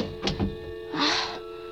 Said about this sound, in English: Stepped inside again and shut the door.